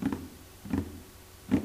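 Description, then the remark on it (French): Three heavy, padded footfalls of a large dog trotting land at a steady, unhurried pace, each a soft low thump, with quiet room tone in between. “J'entends mon gros chien qui trotte.”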